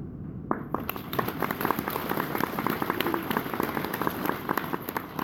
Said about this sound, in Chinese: 好了，刚刚鼓掌的就算你们大公无私了啊，算了。